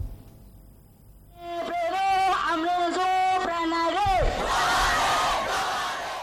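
A large crowd of Rohingya refugees chants in unison at a rally in Cox's Bazar, Bangladesh, marking the sixth anniversary of their exodus from Myanmar, voices rising together in a rhythmic, sustained call before breaking into a louder, broader roar of many people shouting at once.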